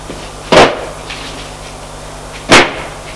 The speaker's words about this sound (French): Il y a une trappe. Il ouvre la trappe.